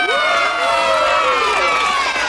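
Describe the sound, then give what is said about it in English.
A crowd of high-pitched young voices cheers and shouts together for the birthday boys and girls, loud and sustained for a couple of seconds, with whoops rising and falling over one another. “Let's hear it for all the birthday boys and girls!”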